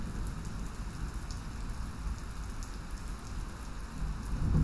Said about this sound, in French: Et tu entends cet orage ?